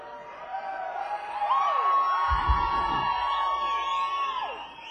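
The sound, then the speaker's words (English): A large concert crowd on Thanksgiving night screams and cheers loudly, with sustained high-pitched shrieks and whoops blending into a dense roar that swells midway and holds for several seconds. “We have these in-ear monitors now, so you gotta scream extra loud so we can hear you.”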